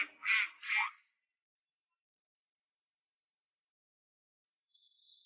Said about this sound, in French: Et maintenant, les canards peuvent nager. Nagez, les canards! Comme ils s'amusent bien!